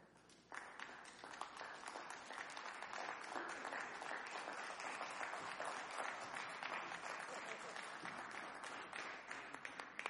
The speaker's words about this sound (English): To bask in the wave of applause.